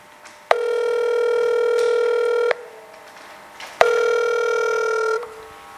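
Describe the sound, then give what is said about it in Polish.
A telephone ringing tone as the radio station Radio Wrzawa calls a listener sounds twice, each a steady, buzzy mid-pitched tone lasting about two seconds, separated by a short silent gap. No one speaks. “Teraz zadzwonimy do kolejnego słuchacza.”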